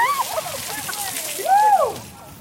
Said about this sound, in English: So students can dump water on her head. Let's get your bucket.